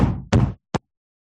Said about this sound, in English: There would be different hammers going.